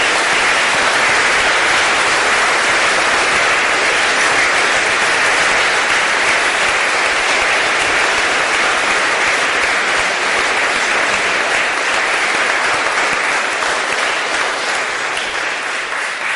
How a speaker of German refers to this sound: Ich denke, ein kräftiger Applaus jetzt für diese drei Gründermönche ist angebracht.